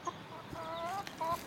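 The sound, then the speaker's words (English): Chickens cluck softly a few times, with short, tonal calls coming in quick bursts against a quiet outdoor background. No one is talking. “You know, see if I can make my chickens make some noises.”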